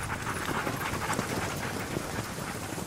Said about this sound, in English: From the woods at the side of the clearing we're in, a team of dogs appears. They're pulling a small, huddled figure in a red jacket on a sled behind them.